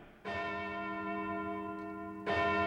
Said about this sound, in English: in Tumbleweed City, the clock strikes two, and that means it's closing time at the First Rational Bank.